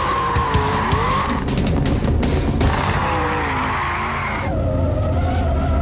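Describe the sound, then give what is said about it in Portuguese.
Loud, continuous tire squeal as a Mach-E 1400 electric car slides through a drift, using a hydraulic drifting handbrake that cuts power to the rear motors, with shifting screeching tones and a steady motor whine underneath for several seconds, no voices. “O Mach-E 1400 tem os mesmos freios do Mustang GT4 de corrida e um freio de mão hidráulico projetado para drifting que permite desligar a energia dos motores traseiros.”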